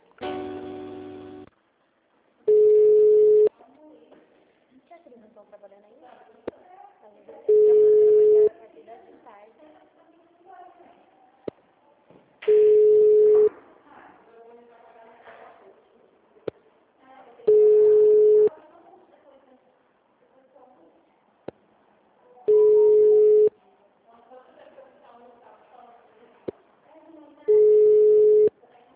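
Telephone line tones while a city hall (prefeitura) receptionist transfers a call to the HR department: six loud, steady single-pitched tones, each about a second long, repeating every five seconds or so, with faint muffled sound filling the gaps between them.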